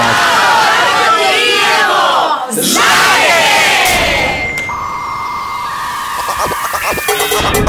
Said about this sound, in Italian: fatemi un applauso a tutti quanti.